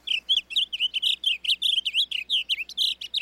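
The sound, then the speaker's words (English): A blue grosbeak sings a rapid, continuous warble of high, sweet notes, rising and falling without pause. The bird sounds clear over faint background hum, with no talking. “Today, rather than the roar of cannons, fields like Antietam are filled with the songs of blue grosbeaks.”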